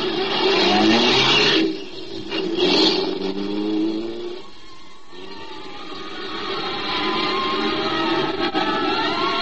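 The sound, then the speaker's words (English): A car engine revs hard and accelerates, its rising whine loud and continuous, easing briefly before surging again, as fire engines and police cars streak through the streets toward a burning piano factory; no one speaks. “The fire engines and police cars streaking through the streets toward the Olympus Piano Factory told me which way to head.”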